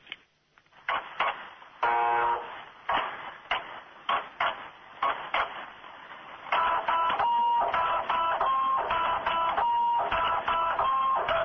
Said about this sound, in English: Computer printers seem to be the new musicians. It's a printer that plays.